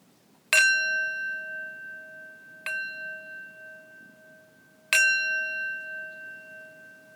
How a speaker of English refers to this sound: Now you're ready to enjoy the meditative tones of the singing bowl at the beginning of each podcast.